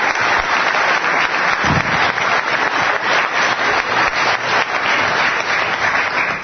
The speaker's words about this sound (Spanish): Ahora sí, os quiero pedir, por favor, un aplauso muy fuerte para dar la bienvenida